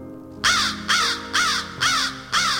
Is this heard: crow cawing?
yes